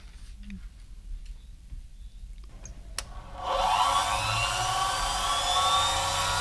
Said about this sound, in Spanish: Máquina de llaves, ¿no?